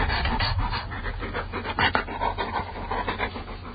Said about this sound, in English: Okay, well, we have a canine guest in here today. You might be able to hear him. Come up here. Come up here on the mic. Okay. Go right up to the microphone.